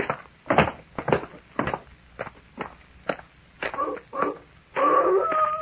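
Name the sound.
wolf howling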